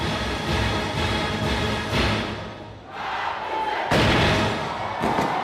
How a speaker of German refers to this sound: Nach 8 Minuten Beifall. Das Publikum ist elektrisiert von diesem stählernen Orchesterklang.